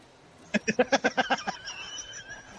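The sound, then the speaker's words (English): A robotic duck gives a rapid series of about eight harsh, nasal quacks from roughly half a second to a second and a half, fairly loud, followed by faint chirpy tones and low background noise. “While we have to fight this robotic duck.”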